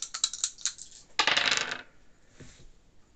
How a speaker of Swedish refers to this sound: Nu tar jag de två 10-sidiga tärningarna.